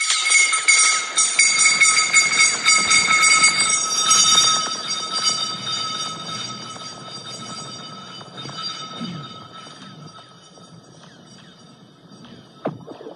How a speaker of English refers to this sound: Somebody drops three stones down a pipe, and at the end, you'll hear the stones come out of the pipe and crash into a body of water.